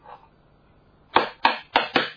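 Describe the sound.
Four sharp, solid knocks on a wall land in quick, fairly even succession after a brief quiet stretch, as men knock on the walls in quiet parts of a temple.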